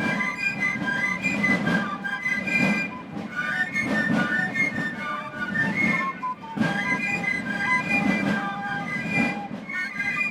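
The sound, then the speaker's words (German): Hundreds of Basel Carnival cliques of drummers and piccolo fifers march through the streets at the Morgenstreich, shrill piccolos playing a bright tune in unison over a steady beat of snare drums, loud and continuous throughout. “Aus Gässle, Strasse und Häuserecke strömen hunderte Klicken mit ihren Trommler und Piccolo-Pfeifer.”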